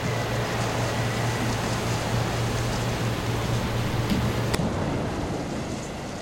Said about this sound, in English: And as soon as you step out, you're just sprayed with a whole bunch of water. And you look down, and the ocean is swirling and swirling. And you see a giant whirlpool.